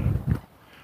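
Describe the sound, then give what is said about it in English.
Two quick, low goose honks from a couple of geese somewhere up in a tree line sound back to back, then the call drops away into quiet outdoor background. “Here are a couple of geese.”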